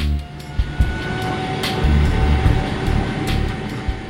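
An airplane engine spinning up as the plane prepares to accelerate on the runway during a commercial multi-engine flight exam in clear weather: a steady high whine over a broad, loud rumble, with a few sharp clicks and thumps breaking through. No one speaks.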